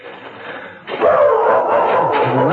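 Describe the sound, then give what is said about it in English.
A small dog, a little mutt named Tippy, barks and yaps in a steady, excited stream, fairly loud, starting suddenly after a quieter stretch of background noise. “Get away, you little mutt.”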